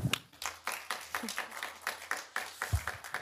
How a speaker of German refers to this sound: Ladies and Gentlemen, Non-Binary Visitors, ein kleiner Applaus bitte.